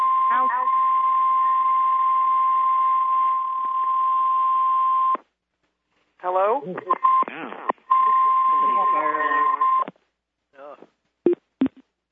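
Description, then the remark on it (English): A shrill, steady smoke alarm tone sounds continuously for about five seconds, fairly loud and slightly tinny, then cuts off, followed by people talking in short bursts. “Who's smoke alarm?”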